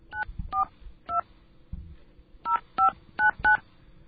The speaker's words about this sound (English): We are able to somehow call a magical number and access this. So I'm going to call that magical number by dialing these little tones here.